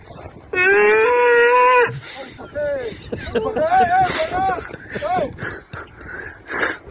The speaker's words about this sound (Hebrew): איך הצלחת לרכב על חמור ולתקוע בשופר תוך כדי זה?